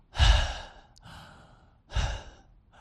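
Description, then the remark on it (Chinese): Two loud, breathy rushes of air: a deliberate open-throated gasping inhale, done as a singing exercise with the throat opened in a half-yawn to lower the larynx, followed by a softer breath and then a second strong one, with no talking. “那在前期的话，我是建议这个同学可以练一下像口腔状态啊，可以先去练这个倒吸一口凉气，对，倒吸一口凉气，打开喉咙，半打哈欠的状态。”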